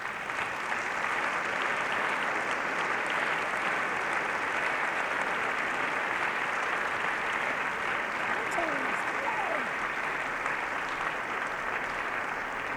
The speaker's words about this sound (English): Would you give them a round of applause as they come?